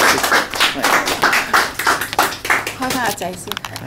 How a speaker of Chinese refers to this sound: 俾啲掌声佢先。系啦，系啦。